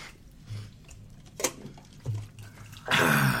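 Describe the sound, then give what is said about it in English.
Jaeger liquor being poured into yogurt at WonderCon: a few soft clinks and splashes, then a louder, steady gush of liquid that fills the last second. No one speaks. “I literally just poured Jaeger into yogurt.”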